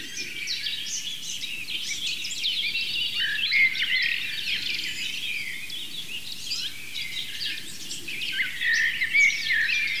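Blue tit calls woven into a dense chorus of other birdsong, with high chirps and trills overlapping steadily at moderate volume throughout, no voices present.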